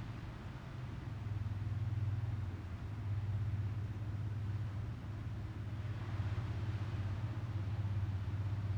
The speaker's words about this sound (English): There's a boat in the ocean right now.